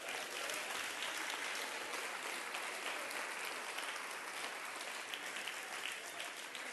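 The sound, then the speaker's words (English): An audience claps hands to Jesus in a dense, steady wash of applause that stays loud and even for several seconds, with no voices standing out. “In the name, clap your hand to Jesus.”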